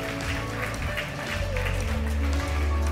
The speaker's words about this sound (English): I probably shouldn't say things like this on the platform, but that always feels awkward for me. It really does. Like, I just wait, and then you awkwardly applaud some guy that some of you don't even know yet.